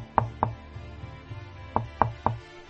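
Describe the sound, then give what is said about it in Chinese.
Knuckles rap on the wooden door of a cave dwelling (yaodong): two quick knocks, a short pause, then three more in an even rhythm. A visitor knocks with a crooked finger. The knocks are fairly crisp against a quiet background, with no one speaking. “果然有人来了，勾起指头敲门。”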